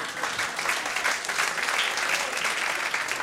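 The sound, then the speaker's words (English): An audience breaks into steady applause, clapping to show they have seen The Wizard of Oz five times, many hands at once in a dense, continuous wash of sound that holds at an even level for a few seconds. “Please clap if you've seen The Wizard of Oz 5 times.”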